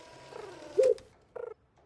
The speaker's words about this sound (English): A nearby pigeon dozes off.